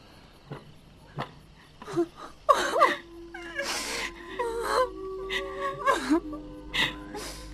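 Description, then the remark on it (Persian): Tearful crying with whimpering, wailing sobs that rise and fall in a string of uneven bursts, preceded by a few short sniffles or catches of breath, late at night. “گریه نکن”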